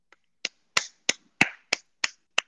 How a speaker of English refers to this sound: Yep. That's a good answer. You get a clap for that. That's the right answer.